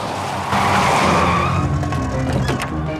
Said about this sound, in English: Alex brings the coupe to a screeching halt near Chaz's restaurant.